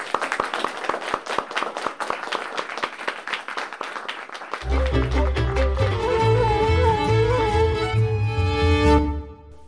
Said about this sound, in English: But thank you so much for coming, guys. If we do one more round of applause for all the students who played.